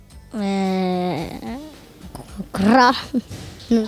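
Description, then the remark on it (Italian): A person imitates a tiger's roar with a loud, drawn-out vocal growl that drops in pitch at the end, followed by a shorter, rougher voiced burst and some brief sounds. “Chi conosce il verso della tigre?”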